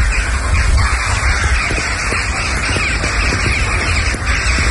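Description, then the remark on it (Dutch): A dense, continuous racket of many rooks and jackdaws cawing and squawking together from the trees around a house and garden in Tiernalo, Drenthe, Netherlands, loud and overlapping with no pauses, over a steady background rush. “In de bomen rond in huis zitten veel roeken en kauwen en die schijten alles onder. En je hoort ook de hele tijd dit.”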